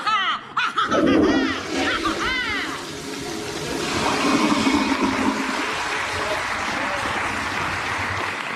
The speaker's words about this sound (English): Did she just flush herself down a toilet